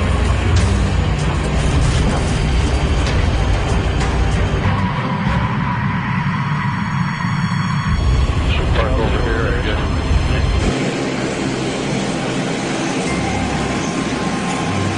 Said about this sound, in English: The Electra is also the only Buffalo aircraft with a ground proximity warning system, 100, which kicks in as the plane approaches the Hull Beach landing strip. 50, 40, 30, 20, 10.